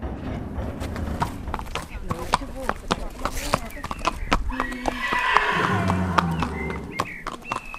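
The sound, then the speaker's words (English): Hooves clip-clop in a steady, uneven series of sharp knocks, then a horse at the Riding for the Disabled Association of Ireland in Carlow lets out a drawn-out whinny partway through, with faint voices murmuring in the background. “a charity which provides the chance for people with physical or intellectual disabilities to spend time with horses”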